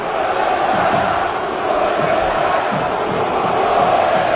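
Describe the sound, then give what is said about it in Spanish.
A loud crowd at Mestalla stadium, fans standing at their seats with handkerchiefs during Valencia's match against Unión Deportiva Las Palmas, chants "Nuno vete ya" in unison, a dense roar of many voices holding steady throughout with a rhythmic, repeated chant rising above the noise. “Y al grito de Nuno vete ya, que se ha convertido ya en la música ambiente aquí en Mestalla. Escuchamos a la grada.”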